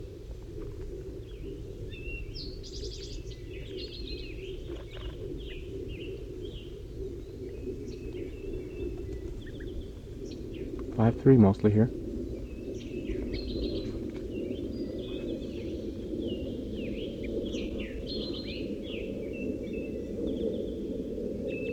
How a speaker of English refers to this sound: One of the wild birds is coming in now. I just saw it land in the pine tree. 5-3's calling to it.